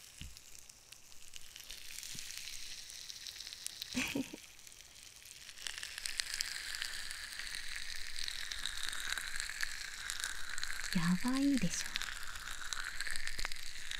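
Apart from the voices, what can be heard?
crackling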